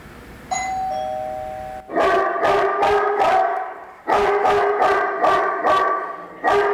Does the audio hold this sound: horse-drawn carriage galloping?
no